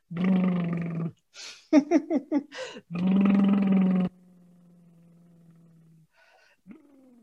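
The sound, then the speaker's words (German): A person doing a tongue-loosening vocal warm-up makes buzzing, rumbling lip-and-tongue trills like a sputtering motorbike, in several long bursts broken by short choppy pulses, then a low steady hum that fades out. “Das klingt so ein bisschen wie so ein brummiger Motorradsound, der da ist.”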